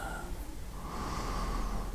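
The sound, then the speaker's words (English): A long, steady breath drawn in through the nose, a soft airy rush lasting about two seconds, fairly quiet, with no talking. “Breathing in the essence of life, making it part of you.”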